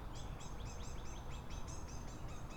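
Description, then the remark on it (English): A small bird chirps in a quick, steady series of high, thin notes, about a dozen in a row, over a constant low outdoor rumble with no one talking. “There's bird noises over there.”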